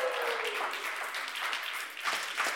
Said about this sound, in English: Well, it is so good to see you guys here actually in the church, isn't it? That's like a golf clap. Come on, guys.